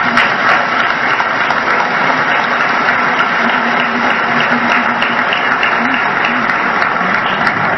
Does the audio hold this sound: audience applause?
yes